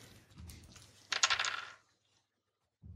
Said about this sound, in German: Nee, weißt du, wir machen jetzt einen Wurf für die Hörer und für nächstes Mal besorge ich mehr Würfel, weil sonst haben wir zu oft die gleichen Ergebnisse und das ist dann langweilig für mich.